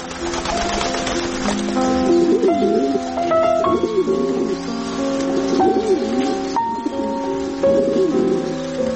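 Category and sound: bird, pigeon cooing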